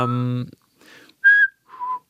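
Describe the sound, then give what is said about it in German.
Someone whistles a short melody of three or four clear notes that step downward, fairly loud, after a brief low voiced sound at the start. “Kannst du es nochmal pfeifen?”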